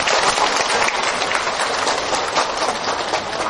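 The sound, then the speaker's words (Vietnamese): A crowd of Buddhist followers at a Buddhist gathering applauds loudly and steadily to welcome the Venerable Quang Lâm. It is a dense wash of many hands clapping at once that keeps up without pause from start to finish. “Giờ đây mời quý Phật tử một tràng pháo tay thật lớn, thật nồng nhiệt.”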